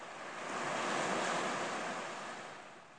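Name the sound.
waves washing ashore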